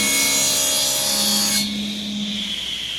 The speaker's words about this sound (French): Là, on est en train de fabriquer des piétements en chêne, issus de chutes de tonneaux. C'est un tonnelier français qui nous fournit ces chutes. La machine qu'on entend, c'est une scie circulaire. C'est l'outil basique de la production en menuiserie.